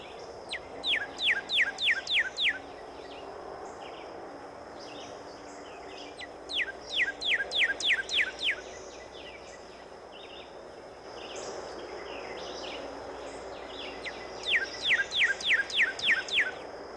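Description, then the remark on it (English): A northern cardinal sings three clear phrases, each a quick series of about six loud, downslurred whistles, separated by pauses, over a faint natural background with no talking. “Another bird in which the male is almost all red is the cardinal.”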